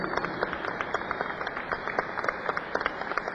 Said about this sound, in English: What about a big round of applause